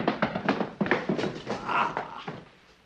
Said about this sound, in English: Aha! I heard the faint squeak of a sneaker.